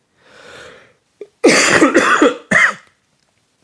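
A soft breathy inhale, then a burst of three or four harsh, loud coughs in quick succession from a person with allergies, with a final shorter cough after a brief pause. Clear, no talking.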